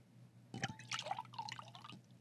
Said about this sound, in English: Hold on, let me pour myself a glass.